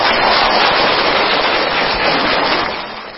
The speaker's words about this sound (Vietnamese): Rồi cho bạn pháo tay.